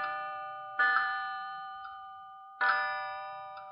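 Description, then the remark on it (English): A wall clock in the therapy pavilion on the 36th floor of a psychiatric hospital, its number 3 slightly chipped, chimes with two loud, bright strikes about two seconds apart, each ringing out in a long, shimmering decay, with a faint click between them. No one speaks. “I couldn't bring it into sharp focus, but I knew that the number 3 was slightly chipped, and that when it chimed, there was distinct hesitation between the second and third note.”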